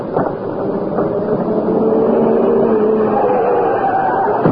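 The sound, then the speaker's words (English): A car engine roars steadily and grows a little louder as it rushes closer, its droning pitch sliding slightly as it speeds past. “It's a car. In this way, but fast.”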